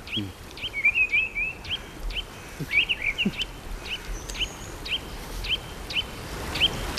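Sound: mistle thrush singing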